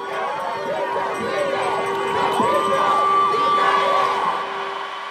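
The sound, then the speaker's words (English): Protesters in the street outside a jail cheer and whoop late at night as the jail's lights come back on, a dense, steady wash of many voices, with rising shouts and a few high calls standing out. The noise stays loud throughout, with no single speaker audible. “And it's late at night and the lights come back on and you see all of the inmates flipping the switch in their cells and the jail light up and everyone sort of cheer on the street.”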